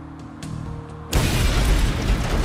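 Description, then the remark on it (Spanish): After a second of low rumble and faint clicks, a loud bomb explosion erupts, its broad roaring blast sustained and crackling for over a second, overwhelming, with no voices. It is a Unabomber bomb disguised as a block of wood with nails, at a rear door to a parking lot in Sacramento, California, on 11 December 1985. “La explosión fue violenta, haciendo un agujero enorme en el pecho de Scruton, que dejó expuesto su corazón.”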